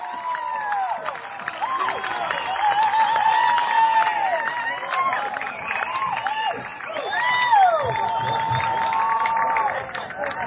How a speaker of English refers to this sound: That's going to be a base hit. Two runs are going to score. Coming around is Modeste, and the 45s have taken the lead. Listen to that crowd.